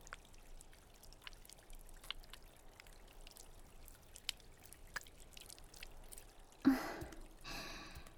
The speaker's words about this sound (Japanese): さて、泡をきれいに流し落として、どこか気持ちの悪いところはある？